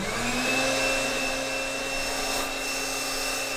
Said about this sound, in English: Now, instead of using a regular blow dryer, like the kind you get from a drugstore, she uses a very specific piece of scientific equipment called an air mattress inflator.